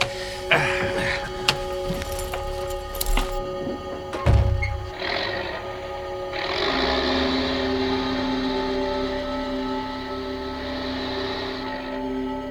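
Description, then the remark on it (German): A truck engine hums steadily with a few dull thumps and knocks early on, then swells into a louder, sustained rumble as the truck is driven into a parking bay at a deserted rest area on the edge of the wooded hills of Carmine Falls in oppressive summer heat, before cutting off near the end. “Tatsächlich sagte Onkel Titus kein Wort mehr, bis er den Lastwagen in eine Parkbucht am Rande der bewaldeten Hügel von Carmine Falls gelenkt hatte.”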